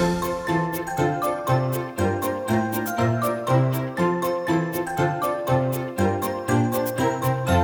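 A baby rattle shaken in a steady, bouncy rhythm, its bright jingling clicks landing on each beat over a cheerful instrumental tune, with no voices.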